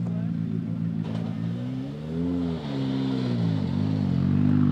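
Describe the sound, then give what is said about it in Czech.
A rally car's engine drones loudly as it arrives at the finish of a rally special stage, its pitch climbing and dipping as it revs and shifts through gears, holding steady throughout without fading away. “Tak to by už za chviličku dojede další auto do cíle.”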